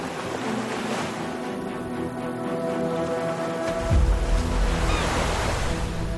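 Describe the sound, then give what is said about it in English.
Steady wash of sea waves off Gaza at sunrise on October 7th, with a cool, breezy hiss, plus low rumbling that swells near the end as boats move up and down in the sea breeze. No voices, just continuous surf ambience. “Boats are moving up and down in the cool sea breeze.”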